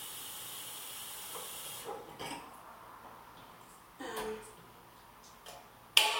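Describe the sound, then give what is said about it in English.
A kettle being filled with water: a steady hiss of running water for a couple of seconds, then quieter handling sounds with brief bumps and a sharp metallic clank at the end. “I'm just gonna fill the kettle here.”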